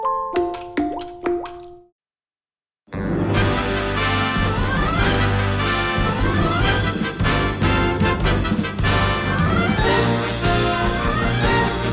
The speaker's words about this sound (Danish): det her musik, det starter jo stort set alle af de podcasts, vi laver